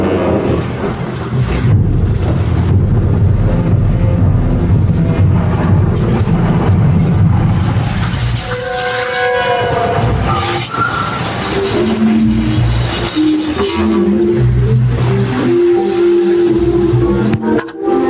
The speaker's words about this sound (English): Shut off that engine.